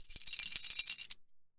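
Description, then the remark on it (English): A bright metallic jingle of keys shaken on a key ring, clear, lasting about a second before stopping abruptly into silence. “I've got a long ruler, an old pencil, and, a key ring with my keys. Look!”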